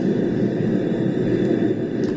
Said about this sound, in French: Le bruit des métros lointains fait vibrer le sol et les murs.